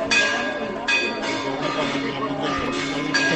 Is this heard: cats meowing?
no